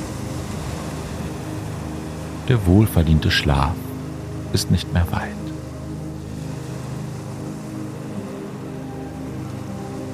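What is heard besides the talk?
ocean waves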